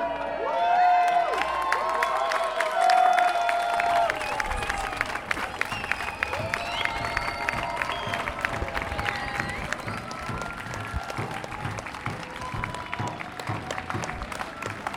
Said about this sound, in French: Troisième jour du procès, à la mi-journée, les prévenus et les avocats viennent de juste à l'instant de sortir. Acclamation.